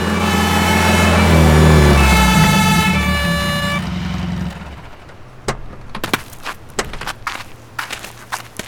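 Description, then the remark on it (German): A fire engine arrives at a house on a small side street north of Rocky Beach, its siren blaring in loud, steady tones over a heavy rumbling engine, then cuts off after about four seconds, leaving a few sharp thumps and clicks like doors and footsteps. “Die ältere Dame wartete schon ungeduldig auf das Eintreffen der Feuerwehr.”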